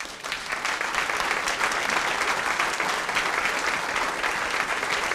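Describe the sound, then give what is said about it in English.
Steady, sustained audience applause, a dense crackle of many hands clapping at once, loud and even throughout with no voices standing out. “We're going to applaud them.”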